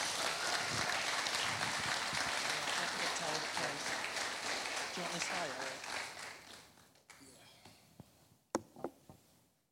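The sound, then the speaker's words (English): A crowd gives another round of applause for a man about to share his story, a steady, dense wash of clapping that carries on for several seconds before tapering off into a few scattered claps and quiet room sounds. “So please give him another round of applause.”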